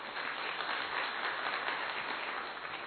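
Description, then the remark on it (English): Sustained applause from a sizable crowd, a dense, steady wash of many hands clapping at once that holds evenly throughout without pause. “Yes, you may clap.”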